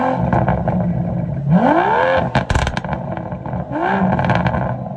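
vehicle, car engine revving loudly

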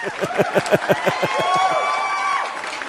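crowd, applause

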